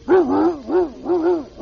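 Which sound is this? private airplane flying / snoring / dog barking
dog barking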